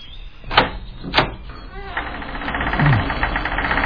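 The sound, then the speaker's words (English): Two sharp clunks, then a long, strained creak that grinds and wavers in pitch as a heavy old unlocked door in a castle slowly swings open, with no talking. “Oh, it's not locked. Feels like it hasn't been opened in centuries.”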